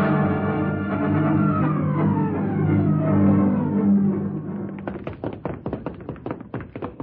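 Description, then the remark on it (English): A low, sustained droning tone fades out and gives way to a rapid, uneven flurry of heavy blows as someone pounds hard on a door to break it down. “Hurry, you fool. Break the door down.”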